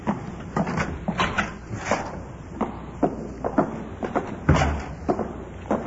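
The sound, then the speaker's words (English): A side door into an office is opened and closed, with a run of latch clicks and rattles followed by a heavier thump as it shuts. No one speaks. “Let's go in the side door here.”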